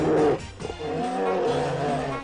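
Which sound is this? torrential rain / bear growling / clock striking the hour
bear growling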